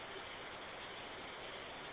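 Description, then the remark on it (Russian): Rain falls in a steady, even hiss with no distinct drops or pauses, a soft continuous wash of noise and no voices. The weather is overcast and damp, about +15°C. “Шататься, короче говоря, дождь идет.”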